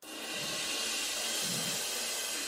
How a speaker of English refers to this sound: Why don't you just give us, just go for it for a second. Bang on the ride and the crash just for a second.